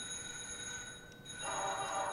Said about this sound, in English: They're literally equipped with all the bells and whistles. So you're going to have things like an ooga horn, because that's what cars sounded like back then. You've got a steamboat whistle. Birds, and a doorbell,